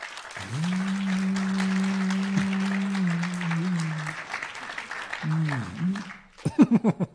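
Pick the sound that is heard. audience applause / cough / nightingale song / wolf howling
audience applause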